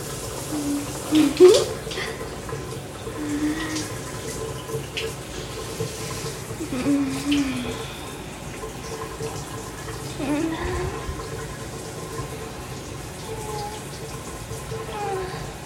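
Shower water runs in a steady, even hiss throughout, with brief soft vocal sounds rising over it now and then but no clear words.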